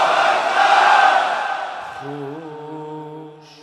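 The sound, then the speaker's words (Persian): A large crowd shouts "Ya Hussein" and "Ya Abolfazl" together in a loud, unified religious chant-like roar for about two seconds, then the voices fade while a steady held tone carries on to the end. “بلند بگو یا حسین، بلند بگو یا ابوالفضل.”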